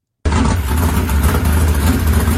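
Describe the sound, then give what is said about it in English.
A loud, deep engine of Tyler's 726-horsepower open-wheel modified car roars into sound and holds a steady, throaty rumble with a powerful low growl, with no voices. “726 horsepower. Listen to this.”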